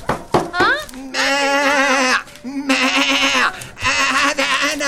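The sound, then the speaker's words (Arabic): A few short vocal sounds lead into three long, wavering sheep bleats, loud and strongly quavering, separated by brief pauses. “من الخروف؟ نعم ما أنا الخروف”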